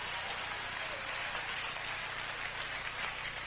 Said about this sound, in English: Come on, clap your hands, somebody.